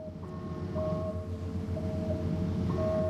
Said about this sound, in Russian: Какой-то шум присутствует. Он похож на звук мотора.